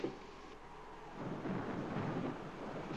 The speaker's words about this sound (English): Dad! Dad! Come here, Dad! Listen! Dad, I think the storm's letting up. Listen!